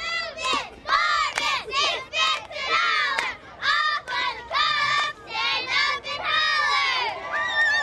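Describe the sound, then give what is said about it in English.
A loud crowd cheering and yelling in the full stands of the Baker High School football stadium at a youth football game where the players and cheerleaders are 6, 7 and 8 years old; many young-sounding voices overlap in rising bursts that swell and dip every second or so without pause. “At the Baker High School football stadium, the stands are full, the crowds are cheering, the players and cheerleaders are 6, 7, and 8 years old.”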